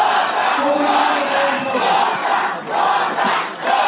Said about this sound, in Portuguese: Foi aí que os ânimos começaram a se exaltar. Com a ameaça de adiamento, o público presente pedia aos gritos que a matéria fosse votada nesta terça.